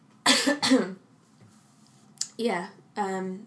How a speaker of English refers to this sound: Sorry, I've got the cough.